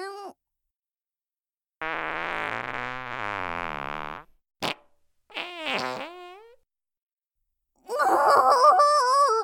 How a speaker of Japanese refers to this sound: 失礼、くさいおならがこんにちは。どう、私のおならくさいでしょう。ごめんなさい、下品なおならお漏らししてしまいました。